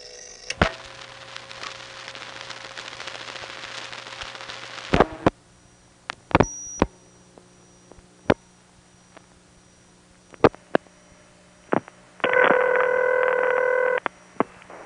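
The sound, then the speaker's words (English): Crossbar 1 telephone switching equipment clunks and clicks irregularly while dialing the New Jersey recording, loud sharp knocks like doors opening and closing scattered over a low steady line hum, ending with a brief buzzy multi-pitched tone. “Here's the recording for New Jersey, and again, notice that doors opening and closing sound that we get dialing it from my Crossbar 1 line.”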